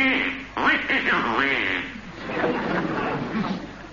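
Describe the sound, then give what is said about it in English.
A person's voice imitates a duck, producing nasal, squawky quacking sounds in a few quick bursts, fairly loud, followed by more warbling, duck-like vocalizing. “So, throwing the egregious duck under the bed, He immediately ate Grandma.”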